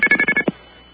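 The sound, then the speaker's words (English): A quick string of five sharp, evenly spaced two-tone beeps, payphone red box coin tones played over a truck's noise, rings out clearly, followed by a soft thump and then near silence. “Those were red box tones.”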